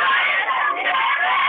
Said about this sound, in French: Alors les élèves de quatrième, c'est l'anniversaire de votre prof. Est-ce que tous ensemble, les 27, vous pouvez crier joyeux anniversaire